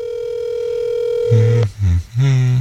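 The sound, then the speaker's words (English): A steady, loud electronic ringing tone of an outgoing phone call on speakerphone hums for over a second and a half, then cuts off as voices start talking over it. “I'm calling him now.”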